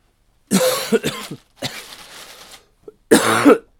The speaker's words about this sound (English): There's a little bit of the cough.